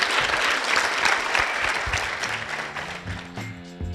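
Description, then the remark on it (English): An audience in Alaska applauds all the speakers at the event "How Cool Is That? Innovation in the Arctic", a dense, steady wash of clapping that gradually thins and softens over the last couple of seconds while a soft musical tone rises beneath it. “we can give a big round of applause to all of our speakers.”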